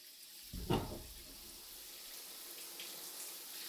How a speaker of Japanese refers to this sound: シャワーかけるよ。